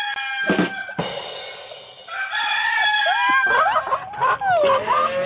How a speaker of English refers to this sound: You know what I always forget, though? I always forget that my sound clips are it's like a playlist, so it goes in yeah. a row. So after the rim shot was the roosters.